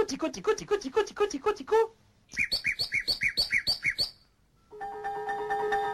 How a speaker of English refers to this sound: Et voici le rossignol. Il éclate tout d'un coup brusquement. This is Messiaen talking about the nightingale and the two distinct sections of its song. The percussive opener.